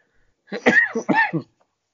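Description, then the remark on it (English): Two quick, harsh coughs in close succession, fairly loud, with a raspy voiced edge and no talking around them. “I used the whole cough as a scenario because I still got my damn cough.”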